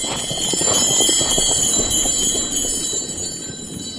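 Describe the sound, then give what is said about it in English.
Harness bells for a horse's driving harness, fitted on the back pad, jingle steadily as they're gently shaken, a continuous shimmering ring over soft rattling, moderately loud, with no talking. “Just move them gently. Let the people hear that sound.”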